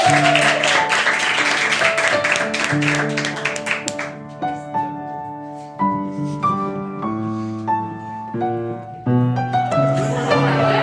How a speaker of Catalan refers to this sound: fort aplaudiment per ell i per la Neus.